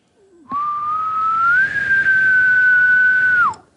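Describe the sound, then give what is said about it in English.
A single long, rising whistle, a human voice imitating a faraway bull elk bugle, climbing slightly then holding a thin steady pitch for about three seconds before dropping off abruptly. “can whistle where it sounds like, you know, like when you can't even tell if you heard a bull or not, it's so far away.”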